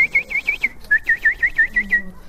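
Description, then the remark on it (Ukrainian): A person whistles a quick run of about a dozen short, high peeping notes in steady rhythm, imitating ducklings calling, fairly loud with no talking. “Маленькие утята, они как, свищут, тю-тю-тю.”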